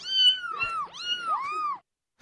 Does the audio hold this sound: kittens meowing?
yes